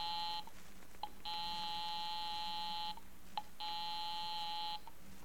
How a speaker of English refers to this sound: I'll give 9B a ring first on the house phone.